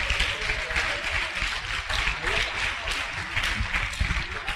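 A crowd applauds steadily for about four and a half seconds, a dense, even wash of many hands clapping at once with small swells, no single claps standing out.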